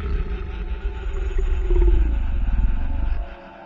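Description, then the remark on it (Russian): A deep, rumbling roar of a fire-breathing dragon guarding a palace swells for about three seconds with a throaty, gliding growl over heavy low rumble, then cuts off sharply, leaving a faint tail. “Охранял дворец огнедышащий дракон.”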